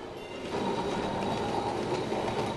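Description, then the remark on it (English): A tram trundles along its rails in Kolkata with a steady rumble and faint rattling clatter, holding at an even loudness throughout, with no voices. “She rode on trundling trams.”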